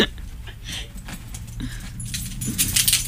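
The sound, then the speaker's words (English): A red metal dog tag jingles against keys on a key ring, a bright clinking shaken repeatedly for a few seconds, growing busier toward the end, with a low rumble underneath. “Wait, I actually have a good one for this because I have my dog's tag on my keys.”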